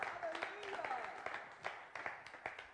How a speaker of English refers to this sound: Clap your hands if you're alive in Jesus. Hallelujah.